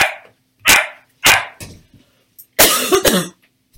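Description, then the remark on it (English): Two puppies, sisters about 12 weeks old, bark in short, sharp yaps, three spaced single barks followed by a quick, noisier flurry of overlapping yelps, fairly loud, with no talking. “First of all, wow, two new puppies. I didn't see that one coming.”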